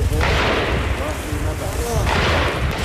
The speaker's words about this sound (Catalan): El so dels trets és constant des de fa 26 dies en aquest camp de refugiats on viuen 20.000 persones.